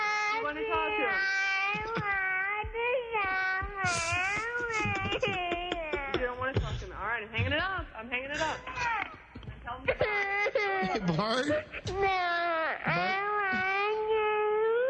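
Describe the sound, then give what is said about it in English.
A young boy, the speaker's son, heard over a phone call, wails loudly and continuously, a high, wavering, cat-like whine that rises and falls in long drawn-out cries with brief catches of breath between them. “Sounds like a cat.”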